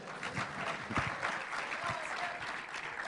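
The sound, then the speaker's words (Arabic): An audience of students applauds steadily to welcome a sheikh giving a talk, dense overlapping claps forming a continuous wash of sound that holds at an even, moderately loud level throughout. “صفقوا شوي بعد زيادة.”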